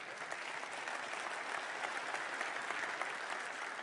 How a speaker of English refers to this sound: You weren't supposed to clap because I really want to get flack for this point.